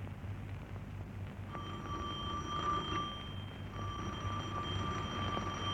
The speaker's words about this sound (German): Von den praktisch wichtigen Klängen will ich Ihnen nur zwei Instrumente vorführen. Erstens die gewöhnliche Klingel.